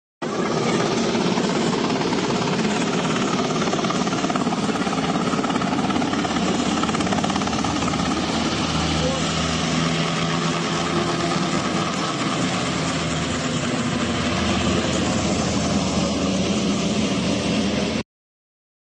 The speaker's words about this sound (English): That is the second military helicopter that has sabotaged, the second video of a military helicopter sabotaging volunteer efforts of Hurricane Helene.